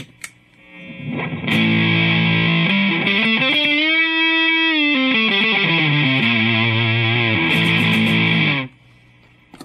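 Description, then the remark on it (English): A guitar played through a hard-clipping fuzz pedal that squares off the waveform: loud, buzzy sustained notes with bends sliding up and back down, ringing for several seconds before cutting off, with no talking. “Fuzz pedals were the early distortion pedals of the day.”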